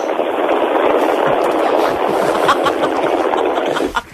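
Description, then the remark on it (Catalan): An Ordegozo electric fan, held up on RAC1 radio to test how quiet it is, runs with a steady, even whoosh of airflow and a low motor hum, holding constant for about four seconds before cutting off abruptly near the end. “Jo poso aquí un ventilador, si vols.”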